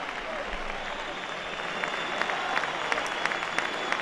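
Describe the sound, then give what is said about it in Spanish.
A large stadium crowd at Anoeta applauds steadily as Luka Modric leaves the pitch, a dense wash of clapping that swells slightly toward the end, with scattered louder claps standing out from the roar. “se va Luka Modric, así lo despide a Noeta.”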